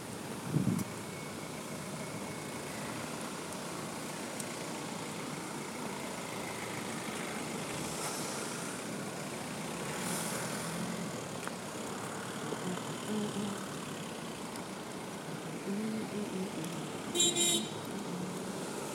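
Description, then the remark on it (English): A bus engine idles at a bus stop with a steady, continuous low rumble, traffic noise around it and a short high electronic beep near the end; no one speaks. “I'll work him onto the bus to make sure he hasn't forgotten what to do.”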